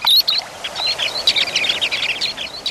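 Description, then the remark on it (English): A flock of Dunlin sandpipers calling together, a steady chatter of thin, high, buzzy chirps overlapping in quick succession, with no voices. “Some, like these small sandpipers known as Dunlin, arrive in force as late as October.”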